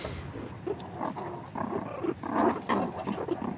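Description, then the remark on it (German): Meerkats growl, hiss, smack and purr all around in a continuous, restless chorus, with rough snarls and breathy bursts overlapping throughout. “Es knurrt und schmatzt und faucht und schnurrt um uns herum.”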